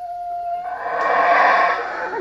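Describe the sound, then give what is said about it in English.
A deep, droning roar from howler monkeys in a tropical forest in Belize swells and grows louder over a couple of seconds, a sustained, rough, moaning chorus that carries through the forest air. No one speaks. “Those are howler monkeys in a tropical forest in Belize.”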